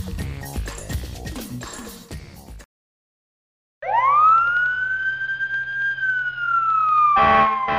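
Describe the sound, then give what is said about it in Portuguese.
A fire engine siren winds up loudly after a brief silence and holds a long, steady wail, following a stretch of busy music at the start. “Esta sirene você conhece.”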